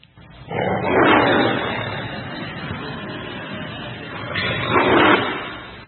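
A lion roars close and loud, a deep rumbling growl that swells, eases off slightly, then surges again toward the end before cutting off.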